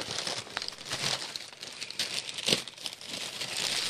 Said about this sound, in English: Okay, so now I will open this. This is an unboxing podcast. An unboxing? Now. Yes. crinkle, crinkle. Manly paper crinkle.